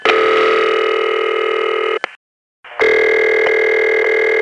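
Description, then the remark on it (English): Two telephone ringback tones, the Bell System City Ring followed by the San Juan ring: a steady loud buzzing tone with strong harmonics, a brief gap of silence, then a second similar tone with a slightly different pitch blend. No one speaks. “Here's the Bell Ring, followed by the San Juan Ring.”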